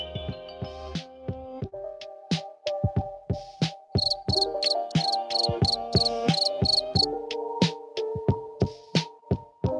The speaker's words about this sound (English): All right. Crickets from the crowd. I get it. I get the message.